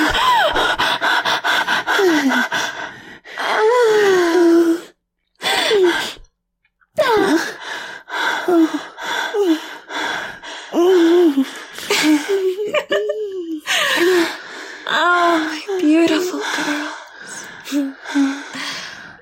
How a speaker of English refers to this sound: Sorcerer, you are conquered. Look at you, lying there flushed and panting, like a warrior dying on the battlefield.